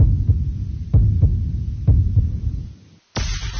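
heartbeat sound effect

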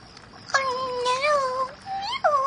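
cat meowing

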